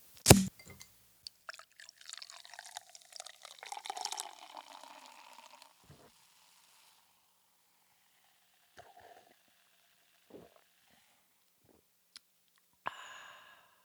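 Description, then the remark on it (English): A sharp pop as a cider bottle is opened, then several seconds of fizzy cider pouring into a glass, followed by a few scattered drips and small clinks in otherwise quiet surroundings. “There's another one opening.”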